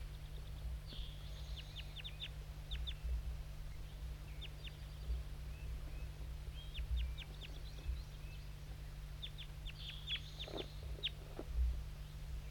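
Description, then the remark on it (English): Crossbills calling, mostly two banded birds identified as 5'3 and J8: clusters of sharp, high chip notes repeat throughout, with a few lower, sharper calls near the end, all over a steady low electrical hum. No one speaks. “This is mostly 5'3 and J8 calling.”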